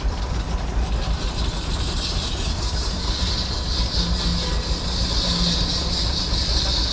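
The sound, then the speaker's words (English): An old 4,000-pound antique steam engine runs steadily, a loud, continuous low chugging rumble with a bright hiss of steam riding over it for the whole stretch, with no talking. “I like the steam engines.”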